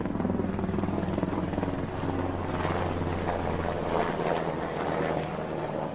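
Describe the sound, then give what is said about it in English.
A helicopter passes overhead, its loud, steady rotor thump and engine drone filling the whole clip with a low, pulsing roar and a broad rushing wash above it. “The jackbooted helicopters.”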